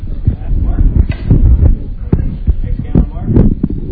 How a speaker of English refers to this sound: You actually hear the slate before the camera, the thing that says take three.